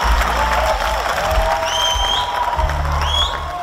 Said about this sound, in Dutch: Toch een kleine verrassing op de uitreiking van de Michelinsterren gisteren. We krijgen er in België een nieuwe 3-sterrenzaak bij. Het applaus was groot voor restaurant Boury in Roeselaar.